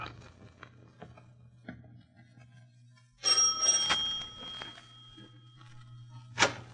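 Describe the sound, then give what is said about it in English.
A doorbell at the front door of 27 Ludwigstrasse, rung by Holmes and Watson, rings once with a bright, metallic tone that lingers and slowly fades, over a steady low hum. Scattered soft clicks come before it and a sharp knock follows. “Shall we mount the stairs and ring?”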